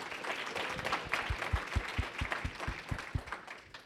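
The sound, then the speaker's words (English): A round of applause from a small crowd welcoming a guest doctor, dense clapping with a few sharper claps standing out, steady, lasting a few seconds without any talking. “So big round of applause for our guest,”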